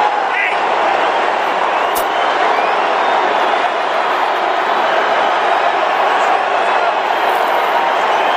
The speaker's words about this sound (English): My question to you is, listen to this. Is this cheering or this booing? Where is your meter on this?